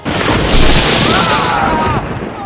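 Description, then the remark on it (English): A loud, sudden crack and boom, like a lightning strike, with a broad roaring burst that sustains for about two seconds before fading. “We've been struck by lightning!”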